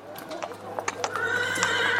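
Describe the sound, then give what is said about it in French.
A horse ridden by a man whinnies in a long, shrill, wavering call while hooves clip-clop in an uneven rhythm on a hard surface, both fairly loud. “Sais-tu qui est cet homme à cheval?”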